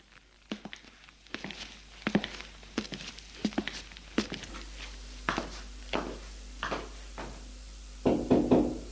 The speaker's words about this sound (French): Il va frapper à la porte de sa chambre.